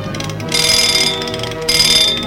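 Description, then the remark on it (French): A small, newly repaired alarm clock rings in two bright, rattling bursts with a short pause between them, loud, with no voices. “Lorsqu'il eut réparé son petit réveil et qu'il le vit fonctionner, il fut fou de joie.”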